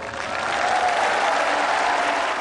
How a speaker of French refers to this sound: 10h35, à Cofton Park, il pleut, mais la foule de fidèles enthousiastes applaudit.